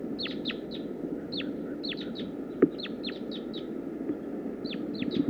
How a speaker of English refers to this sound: Start recording wild bird. Wild female. Wild female. More wild birds are coming in now.